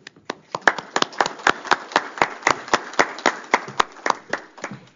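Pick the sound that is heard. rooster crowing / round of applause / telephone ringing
round of applause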